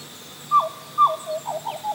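A black butcherbird calls in a rainforest with clear, flute-like whistled notes: two longer phrases followed by a quick run of shorter ones, distinct against a faint background hum.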